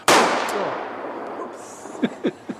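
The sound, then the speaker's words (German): A single loud, sharp blank pistol shot, fired skyward from a terrace in Laupheim, Germany, cracks outdoors, its echo rolling away over about two seconds, followed by a few soft, quick knocks near the end. “wie er mit einer Schreckschusspistole gen Himmel zielt. Dann schieße ich und dann knallt's.”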